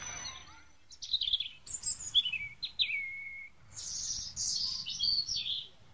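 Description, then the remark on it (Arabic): Small caged birds chirp and twitter in quick, high bursts, several calls overlapping, with a faint low rumble underneath and no voices. “وبعد ذلك جلس الأستاذ حاتم مع طلابه بالقرب من أقفاص العصافير، وأخذوا يتجاذبون أطراف الحديد.”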